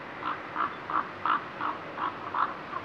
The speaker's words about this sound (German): Die Kolkraben mit ihrem riesigen Schnabel, die größten von allen Rabenvögeln, haben eine besonders tiefe Stimme.